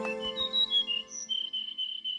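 Bright, high whistled birdsong phrases, some rising and falling, over a brief low musical backing at the start, then settling into a steady series of repeated chirping notes. No one speaks.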